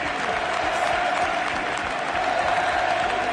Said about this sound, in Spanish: El pueblo se pone en pie. Aplaude todo el estadio mejor del sur de Europa.